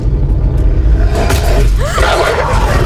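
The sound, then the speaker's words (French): A car engine rumbles loudly throughout as the car drives on autopilot, its deep roar swelling as if the vehicle is speeding up, with brief whooshing sounds over the steady low drone. “Stop! Stop! Arrête-toi! Voiture, stop!”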